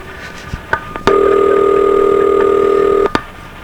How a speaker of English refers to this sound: So let me give this number a shot here and see what happens. Wait a minute. Maybe you can pick up on the number I'm dialing by counting the digits here. Okay, here we go.